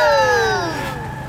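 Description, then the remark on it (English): A revving car engine on a race track, or a voice imitating one, with a strong whining tone whose pitch slides steadily downward over about a second, fairly loud. “You hear the sound the engine's making?”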